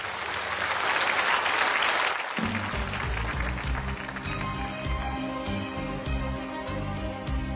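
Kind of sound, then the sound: crowd, audience applause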